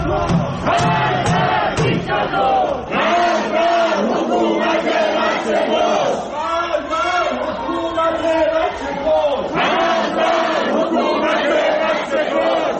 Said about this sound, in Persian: این صدای معترضان در شهرک اکباتان است که میشنوید.